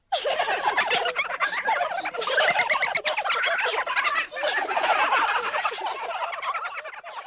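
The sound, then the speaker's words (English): A flock of birds cackles and gobbles in a loud, continuous turkey-like chorus, the rapid warbling calls overlapping for several seconds with no one speaking. “A group of birds was watching this, and they just started laughing at poor Peter”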